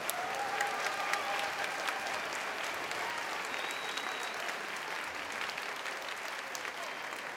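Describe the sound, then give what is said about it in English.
Sustained audience applause for the high school and middle school band directors at a Portland Public Schools music program in Oregon, a dense steady wash of many hands clapping at an even level for several seconds, with a few faint whistles or cheers threaded through. “Can you please give all of the high school and middle school band directors a round of applause.”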